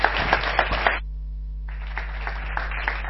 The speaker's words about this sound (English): I'll just you just clap hands for him and cheer him up a bit.